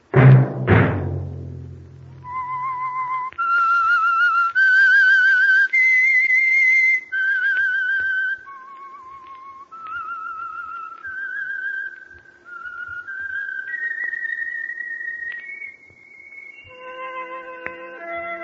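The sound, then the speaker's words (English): A single whistler carries a slow, sustained melody of long held notes stepping up and down, clear, after a brief low thud at the start; no talking. It is the theme of the radio program The Whistler. “Let that whistle be your invitation to listen to the Household Finance Corporation program, The Whistler, each week over these stations.”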